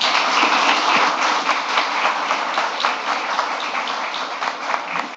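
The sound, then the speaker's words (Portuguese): Sustained applause from an audience, with city councillors present, a dense wash of many hands clapping at a steady, fairly loud level for several seconds with no voices standing out. “Então, eu agradeço a todos e direciono esses aplausos a essas pessoas também.”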